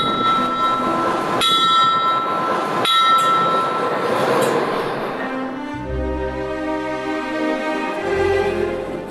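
A special-purpose Tsar's train pulling away from Omsk, bound for Lyubinskaya station: two sharp metallic clanks and ringing, bell-like tones early on, then a deep, heavy rumble building as it gets moving, loud.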